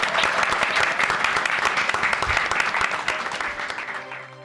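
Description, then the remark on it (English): A large theatre audience at the Bloomsbury Theatre applauds loudly and steadily, dense overlapping claps filling the theatre, tapering slightly toward the end as a faint tone emerges beneath. “Give yourselves a massive round of applause.”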